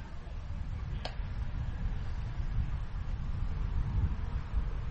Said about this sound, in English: A little windy today here at Gastineau.